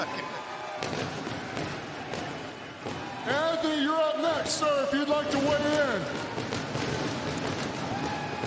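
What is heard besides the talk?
fireworks exploding outside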